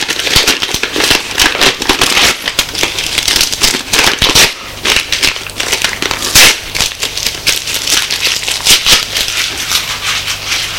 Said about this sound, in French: Puis Marc déchira en petits morceaux leur carte d'identité.